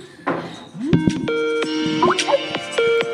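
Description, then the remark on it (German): A short Skype call ringtone melody plays from a small phone speaker: a few bright, bell-like tones stepping up and down, with some sustained notes and a faint rustle at the start. “Wir skypen nämlich immer, deswegen die Skype-Melodie.”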